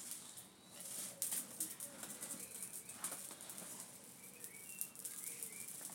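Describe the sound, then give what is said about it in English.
A blackbird sings, with short fluty whistled phrases drifting over a steady hiss of outdoor background noise, fairly faint and spaced out across the moment. “They sound lovely. Yeah. Especially that blackbird.”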